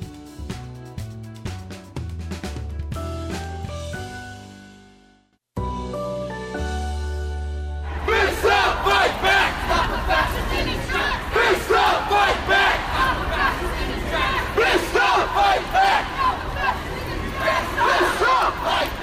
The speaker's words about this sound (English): Sounds of demonstrators on North Charles Street Sunday evening over by Johns Hopkins. They're shouting, "Fists up, fight back, stop a fascist in his track."